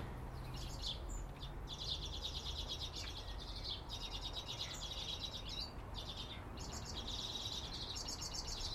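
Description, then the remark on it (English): A bird sings in repeated bursts of high, rapid trilling phrases separated by short pauses, carried over a steady rushing background noise with no talking. “That's the first Red Bull song. Straight in front of me up there.”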